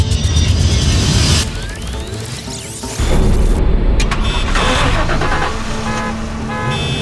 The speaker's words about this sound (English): Whoa! You just turned on every car in this parking garage.